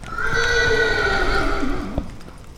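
A horse whinnies loudly, a long quavering neigh that falls in pitch over about two seconds, with faint hoof clops underneath and no talking.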